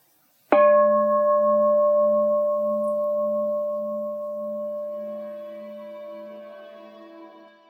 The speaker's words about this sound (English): So I'm going to count to 12, and then I'm going to ring the bell.